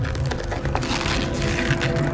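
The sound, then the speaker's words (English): A photo of a dark-haired boy with an automatic weapon is crumpled by hand, giving a dense, continuous crackling with sharp little snaps throughout, fairly loud and steady for a couple of seconds over a faint low hum. “Danny picks it up and crumples it.”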